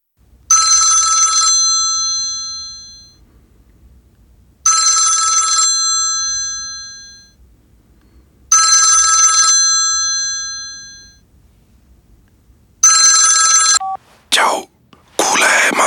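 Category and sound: household object, mobile phone ringing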